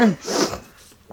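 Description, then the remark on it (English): A single throaty cough from a person getting over a cold bursts out sharply and then trails off into a brief breathy rasp, followed by near silence. “Let me cough first.”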